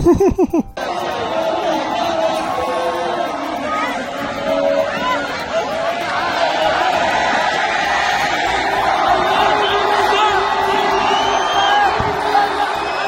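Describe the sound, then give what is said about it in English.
A large crowd cheers and whoops continuously after a speech, a loud dense roar of many voices with shouts and laughter rising and swelling for over ten seconds after a brief opening burst. “Yeah, whatever that gibberish shit that it said, it got all the crowd riled up and made them happy, so...”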